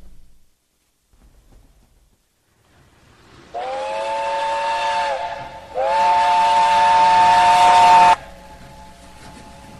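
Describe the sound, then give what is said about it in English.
A loud steam whistle sounds twice in quick succession at a railway station in Brighton, England, in 1962, each long blast breathy and hissing, set against a low, quiet station rumble that continues after the whistles stop. “Subdued is set in a railway station in Brighton, England, 1962.”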